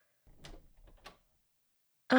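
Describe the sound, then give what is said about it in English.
A door is unlocked and opened: a short run of metallic clicks and rattles with two sharper latch snaps, then a brief pause before a louder sound cuts in. “You can open the door. I won't look.”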